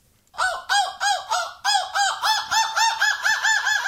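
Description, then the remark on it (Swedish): A voice imitates a seagull's scream in a radio guessing game, either the winner of the European seagull-screaming championship (Måsskrik EM) or a host: a loud, rapid series of about a dozen harsh, arching cries in a steady rhythm, with no talking. “Vilken är vinnaren i Måsskrik EM och vilken är jag?”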